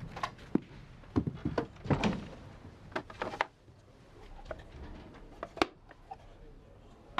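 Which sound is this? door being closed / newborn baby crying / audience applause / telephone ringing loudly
door being closed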